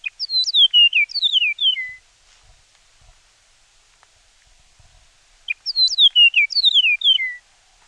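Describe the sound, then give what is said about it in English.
A Chihuahuan meadowlark sings two clear, bright phrases of descending whistled notes, separated by a few seconds of quiet; the song is loud with no other sounds. “The Chihuahuan meadowlark's song is also distinct. Here's an example of what it sounds like.”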